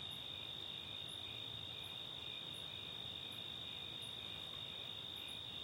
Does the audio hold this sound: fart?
no